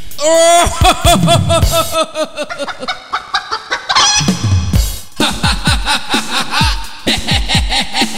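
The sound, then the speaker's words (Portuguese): A chicken clucks loudly in a rapid, excited stream of squawks and cackles, with harmonic calls rising and falling across several seconds and no pauses of silence. “É sempre um prazer falar com uma galinha.”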